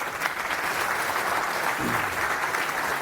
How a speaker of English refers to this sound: So a round of applause for a Go contributor.